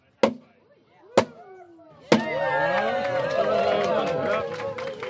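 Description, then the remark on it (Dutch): A post bearing a sign is hammered into the ground in front of atelier Pexpo at an exhibition opening, with three heavy, evenly spaced thuds about a second apart. After the third blow, a crowd's chatter and murmuring voices swell up and carry on. “door voor de deur van Pexpo een paal in de grond te slaan met hierop een bord met de tekst Wat niet mag wijken.”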